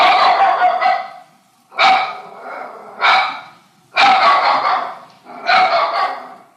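A dog barks loudly, about five harsh, drawn-out barks in an uneven rhythm, separated by short pauses, with no voices.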